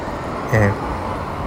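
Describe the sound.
A steady wash of roadside traffic noise fills the background at the community bus stop in front of Apia, with a brief murmur of a voice rising over it for a moment.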